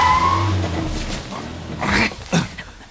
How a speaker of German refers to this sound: Doch mitten auf der Strecke machte das Fahrzeug plötzlich ein hässliches Geräusch und unter der Motorhaube quoll Rauch hervor.